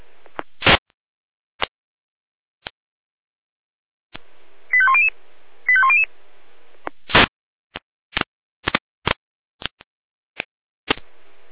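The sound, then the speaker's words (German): A fire brigade radio alerting tone sequence from the Jena control centre, alerting units to a building fire at Hintergasse 27 in Bürgel, Germany: two short bursts of quick, stepped electronic beeps, surrounded by sharp radio clicks and crackling static bursts, with no voices. “Jena Alarmruf.”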